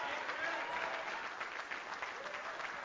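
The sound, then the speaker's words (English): An audience claps their hands as praise to the Lord in sustained, dense applause, a steady wash of overlapping claps with faint crowd murmur and cheering mixed in. “Let's give the Lord a hand clap of praise in his house.”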